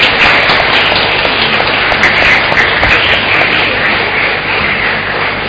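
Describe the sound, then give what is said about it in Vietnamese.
A parish audience applauds together to congratulate and thank members of the Ba Cát Minh council, a steady, dense wash of many hands clapping, loud and sustained for several seconds without any talking over it. “Chúng ta cho tràng vỗ tay chúc mừng và cảm ơn.”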